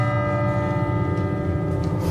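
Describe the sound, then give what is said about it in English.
A steeple clock bell strikes twice, its deep resonant tone ringing steadily with long, humming overtones that hang in the air without fading. No voices are heard. “Steeple clock strikes twice.”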